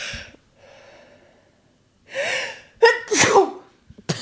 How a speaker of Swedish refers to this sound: Nu nyser jag.